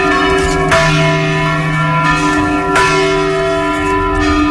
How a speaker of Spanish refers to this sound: Però quan s'atura, això? Això ja acaba, eh? Ah. Ara, només sona una campana.